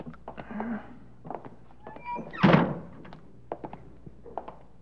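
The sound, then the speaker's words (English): A side door of a building being opened: scattered latch clicks and rattles, then one solid thunk as it swings, followed by a few light taps and scuffs. “Let's try that side door.”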